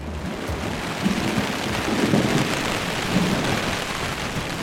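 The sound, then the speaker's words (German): Wind and heavy rain batter a tent pitched on sand, pressing it flat, in a steady, dense roar, with deep gusty rumbles swelling now and then. Loud throughout, with no voices. “Und jetzt brettert hier der Wind und der Regen gegen das Zelt und drückt das total platt.”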